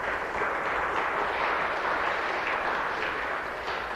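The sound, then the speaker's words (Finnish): An audience of people from Kokkola claps for visitors from Kälviä, steadily for about four seconds, a dense, even wash of many hands with no pauses and no voices, holding a fairly constant loudness throughout. “Antakaa kokkulalaiset kälviäläisille aplodit.”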